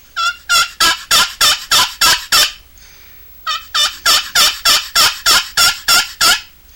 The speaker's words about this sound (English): I can hear the turkey in there.